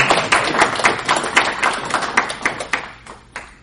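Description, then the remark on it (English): Brisk hand clapping applauding a reading, a quick irregular run of sharp claps carrying on steadily for a few seconds before thinning out and fading toward the end. “I want to applaud you, because that was really good.”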